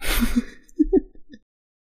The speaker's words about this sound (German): Ich muss husten und versuche das die ganze Zeit zu unterdrücken.